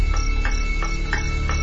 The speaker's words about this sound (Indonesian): Suasana kamarku hening. Bisa ku dengar suara detik jam dinding